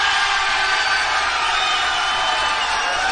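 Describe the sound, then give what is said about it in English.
A crowd cheers steadily for a contestant in a singing contest at a bar in Fullerton, a dense wash of whoops and yells held at a constant loud level for about three seconds with no break. “Kevin is going to put his hand over each contestant by your applause.”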